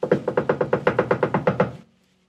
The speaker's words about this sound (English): "Let us in! Please let us in," they begged, knocking loudly.